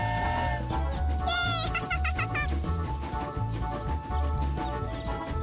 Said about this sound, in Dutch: Jopie zwaait naar de koeien. De koeien loeien naar Jopie.